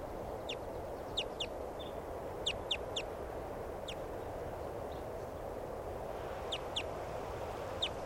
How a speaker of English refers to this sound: Recording a crossbill, it sounded different. It just flew over. No sign of it. There's a crossbow here, it sounds different. That could be a variant in type 2.